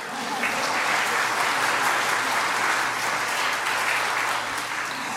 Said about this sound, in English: The bishop's staff will support us on our journey, and we have an amazing senior and junior warden and vestry. Applause, please.